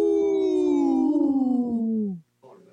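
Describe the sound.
People let out a loud, sustained wolf-like howl with their voices for Howling for Wolves, a group protecting wolves, the long tone sliding slowly downward in pitch for about two seconds before cutting off, followed by a brief murmur.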